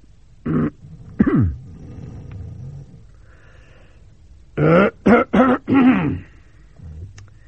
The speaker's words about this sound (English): I'll cough.